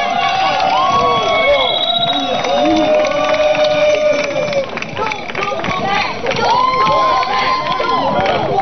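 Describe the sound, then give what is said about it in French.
An audience applauds and cheers loudly and steadily for several seconds as several people climb the steps, a dense wash of clapping mixed with excited voices calling out and whooping over the top. “Qui montent les marches sous vos applaudissements.”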